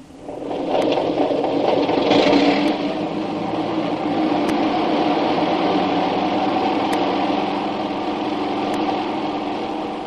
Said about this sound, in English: Was that the plane, boss?